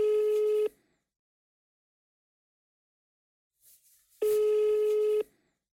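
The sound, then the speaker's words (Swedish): Two steady electronic ringback tones on a phone line while calling the police, each about a second long with a long silent gap between them, clear with no talking. “Så jag ringer till polisen för att kolla att allt är okej.”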